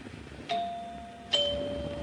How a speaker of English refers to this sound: Nice chimes. Pretty.